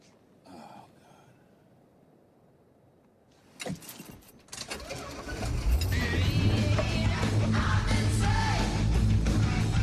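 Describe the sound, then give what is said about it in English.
After a few quiet seconds and a brief clunk, a truck engine turns over and catches, then runs loudly and steadily with a deep rumble until the end, as the truck reverses away from a trailer. “Randy arrives back at his trailer and sits pensively at the wheel of his truck.”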